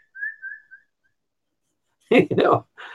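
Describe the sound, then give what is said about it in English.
Someone whistles a few short, high, warbling chirps in imitation of little birds, then falls quiet before a person starts talking. “Little birdies.”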